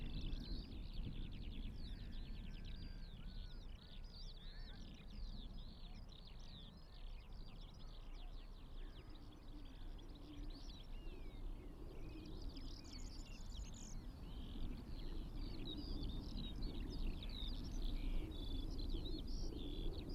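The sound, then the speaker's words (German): A skylark flying up into the sky sings a long, unbroken stream of rapid, high warbling trills overhead, fairly faint, over a low steady outdoor rumble, with no voices. “Wenn die Feldlerche in den Himmel fliegt, kann ich sie nur hören.”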